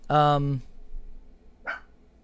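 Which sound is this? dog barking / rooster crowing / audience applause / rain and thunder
dog barking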